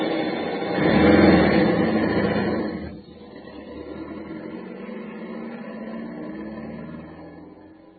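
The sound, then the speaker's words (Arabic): A car engine rumbles as people ride in the car, swelling louder for the first few seconds as if revving, then dropping back to a steady, lower hum that continues to the end. “بس عمنا إحنا ما ركبنا الدابة، ركبنا سيارة.”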